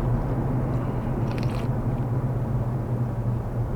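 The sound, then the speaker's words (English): A single short slurping sip of coffee from a cup over steady engine rumble and road noise inside a moving car. No one speaks. “Another sip here.”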